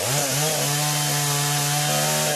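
A loud chainsaw engine revs up and then holds a steady, high buzzing whine as it cuts into a wooden timber hauler to destroy it in the Brazilian state of Maranhão, with a slight shift in pitch near the end.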